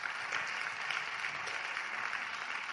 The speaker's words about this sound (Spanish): Look at those young ladies clapping over there. They heard what I was saying. Ahí están las jovencitas aplaudiendo.